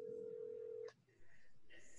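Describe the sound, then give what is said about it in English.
A steady, clear telephone tone hums for about a second as a disconnected caller is called back during a council meeting, then cuts off with a click, leaving faint line hiss and muffled noise on the phone connection. “She said aye, and then the phone line disconnected, if you can believe that. But I will call her right back.”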